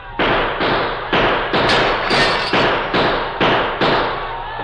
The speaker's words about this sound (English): They won't expect gunfire from here. We'll shoot over their heads. That may hold them for a little while. Here they are. Shoot high, Tonto.